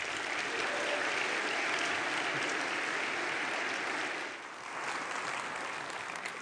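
An audience applauds steadily to welcome a speaker, a dense wash of clapping that holds strong, dips briefly near the end, then picks back up, with no voices heard over it.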